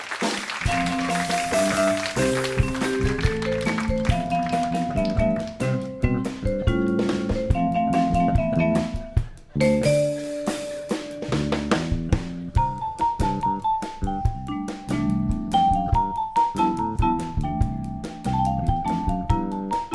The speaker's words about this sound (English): was that a marimba song?